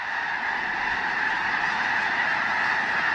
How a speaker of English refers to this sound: A closer look reveals 10,000 or more white-feathered snow geese, covering the field in one immense flock.